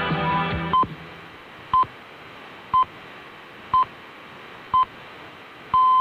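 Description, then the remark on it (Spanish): Radio Nacional de España time signal pips marking three o'clock: five short, evenly spaced high beeps one second apart, then a longer final beep, sounding over a steady hiss of broadcast static. “todavía seguían emitiendo esa señal de Radio Nacional”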